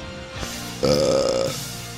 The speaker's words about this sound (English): Here's to 100 episodes of me burping.